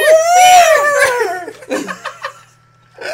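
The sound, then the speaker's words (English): A person imitates a squealing pig: a loud, high, wavering squeal that rises and falls for over a second, then a few short, breathy, snorting bursts. “I think he sounded more like a squealing pig.”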